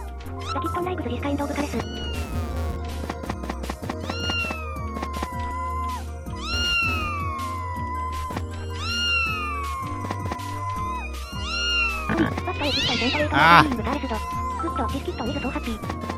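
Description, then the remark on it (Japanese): A cat meows angrily again and again, drawn-out rising and falling yowls over steady background music, with a louder, harsher burst of caterwauling near the end and a voice speaking at times. “ああ なんか怒ってる怒ってる。どこにいるんだよ猫ちゃん。”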